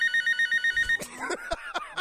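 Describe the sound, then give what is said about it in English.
A telephone bell sound effect, played as a telephone payment bill is read out, rings in a rapid, even trill of about nine high-pitched pulses lasting roughly a second, then breaks off into a jumble of sharp clicks and warbling tones. “Oh, we have sound effects.”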